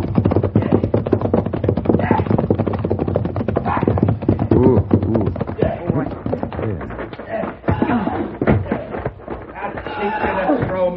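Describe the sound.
Steady horse hooves clip-clop in a quick, continuous rhythm for the whole stretch, with people's voices talking over them.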